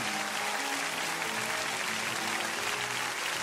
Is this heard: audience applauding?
yes